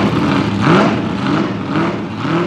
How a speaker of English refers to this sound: 3, 2, 1. Ignition on. Just listen to that engine.